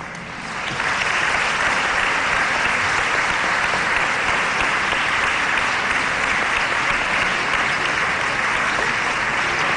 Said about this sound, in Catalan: Rebem a Míriam Muñoz amb un fort aplaudiment